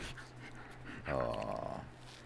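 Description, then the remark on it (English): A dog, Angel, in a studio/garage makes a drawn-out grunting, whiny noise for about a second amid soft snuffling and licking-like breaths, with no talking. “You're not the talking dog. You're the licky dog, huh? Lick, lick, lick.”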